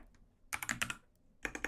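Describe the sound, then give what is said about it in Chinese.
Quick clacking of keys on a computer keyboard as someone types a note, a burst of about five keystrokes, a short pause, then a few more taps, with no voices. “等一下，我做一个笔记啊。”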